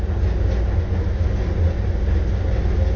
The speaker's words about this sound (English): But you do like the sound of the dryer?